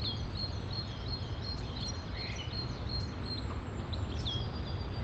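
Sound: birds singing outdoors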